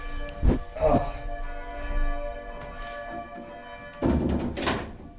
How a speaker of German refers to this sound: Ich mach kurz Fenster zu.